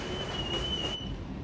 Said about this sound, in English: even at 5 in the morning, the train is crowded. On the train, he wears headphones.